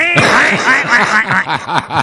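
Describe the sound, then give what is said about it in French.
A voice imitates a duck hunting call: a loud, rapid run of about eight nasal, honking quacks in a steady rhythm, with no one talking over it. “J'ai déjà été à la chasse au canard puis collé le canard.”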